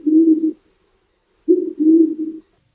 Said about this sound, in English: Band-tailed pigeons live along the Pacific coast and in the Southwest. Their sound oddly resembles an owl. You may occasionally hear it without seeing the bird.